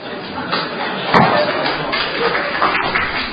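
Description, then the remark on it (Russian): A crowd applauds in a steady, dense patter of many hands clapping at once, sustained at an even loudness for a few seconds, with a slightly sharper burst about a third of the way through. “Ваши аплодисменты как мне расценивать?”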